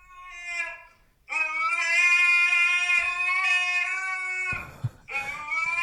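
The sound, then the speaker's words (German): A fat, somewhat overweight husky dog lying in front of a door howls in long, high, wavering tones: a short cry, then a sustained drawn-out howl, a breathy gap, and another howl starting up. “Aber warum jault der denn?”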